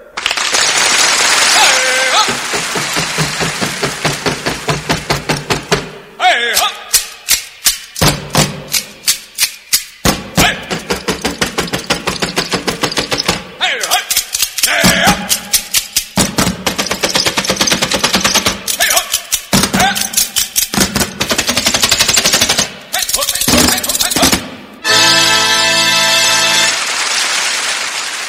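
Extremely fast, loud stomping from the world's fastest precision drill team, a relentless machine-gun-like rattle of foot strikes in bursts separated by brief pauses, with no talking.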